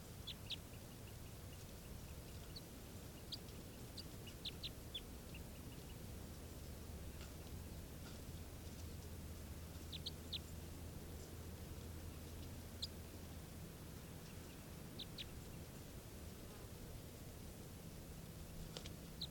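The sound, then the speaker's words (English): A decoy gives off faint, scattered bird calls: short, high-pitched chirps in irregular bursts over a steady low hum and background hiss, with no talking. “That's the bird.”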